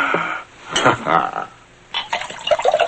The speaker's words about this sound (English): Doug pours more liquor into his glass.